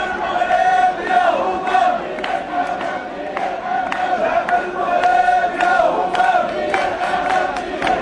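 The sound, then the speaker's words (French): A large crowd of protesters with raised flags shouts and chants continuously, a dense, steady roar of many voices at the end of a demonstration march on a square in Rabat under hot sun, sustained and fairly loud throughout with no pauses. “Donc voilà, il y a encore la voix démocratique qui lève encore ses drapeaux, qui crie encore, mais c'est la fin de la manifestation sur cette place sous le soleil de Rabat.”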